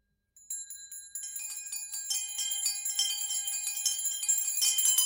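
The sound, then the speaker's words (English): Many small bells jangle at once as a disused servant's bell and every other bell in a house ring out, starting with a few rings and quickly swelling into a loud, continuous clamor of overlapping chimes with no voices. “It rang out loudly, and so did every other bell in the house.”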